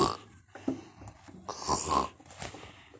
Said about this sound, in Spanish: Como aquello era un tanto monótono, el hombre comenzó a bostezar, luego a cabecear y por último a roncar.